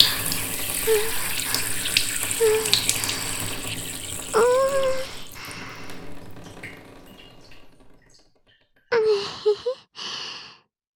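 A steady liquid stream splashes continuously for about eight seconds, like a urination sound effect, with soft breathy sighs over it. It stops abruptly, followed by a pause and a few short, close sighs.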